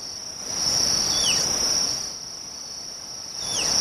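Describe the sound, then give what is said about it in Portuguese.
Two short, high whistles from a tapir, a loud whistle it gives in response to the call of the carrapateiro bird, each sliding downward in pitch, sound a couple of seconds apart over a steady, shrill drone of crickets or insects. “se a anta estiver na área, ela vai fazer esse assovio alto para chamar o carrapateiro”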